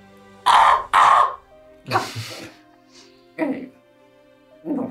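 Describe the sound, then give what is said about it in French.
Harsh, cawing bird calls ring out loud: two quick strong caws, then several rougher, lower squawks spaced out over a few seconds, with no talking. “Oui, je vous laisse l'oiseau.”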